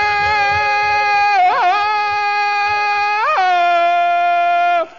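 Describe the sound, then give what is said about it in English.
A man as Tarzan, held by a chain, lets out a long, loud jungle yell like a bull ape, a steady high-pitched tone broken twice by warbling yodel flips before it cuts off abruptly. “Tarzan, why you make screams like bull ape?”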